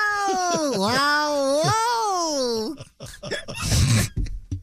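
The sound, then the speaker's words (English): A cat lets out a long, wavering yowl, its pitch sliding up and down for a few seconds before breaking off into short scuffling noises. “Hey, well, you know, if cats can do it, you know.”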